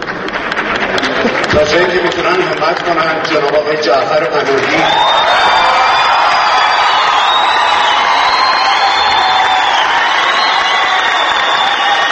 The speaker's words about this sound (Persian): او آرزو کرد جعفر پناهی به دامان سینمای ایران بازگردد، آرزویی که با تشویق شدید حاضران روبرو شد.